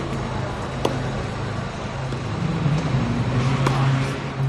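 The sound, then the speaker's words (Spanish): Steady road traffic hums in the background, with cars rolling past and a couple of faint sharp knocks, Rafael Nadal's racket strikes on a tennis ball, cutting briefly through the continuous engine and tire noise. “Este sonido con coches de fondo y de un golpeo de una pelota de tenis, de estos raquetazos, son los últimos raquetazos de Rafael Nadal, al menos de cara a una competición.”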